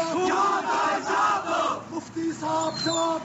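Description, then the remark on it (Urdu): A crowd of young protesters chants in unison, loud rhythmic bursts of many raised voices repeating short phrases with brief pauses between them. “تاہم بعض مقامات پر نوجوانوں نے مظاہرے کیے.”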